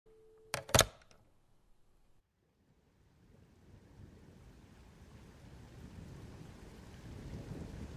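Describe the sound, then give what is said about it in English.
A sharp, loud thunderclap cracks near the start, then a brief lull before steady rain builds into a growing, low rumbling downpour with no voices. “The weather's getting worse lately. All this rain and thunder.”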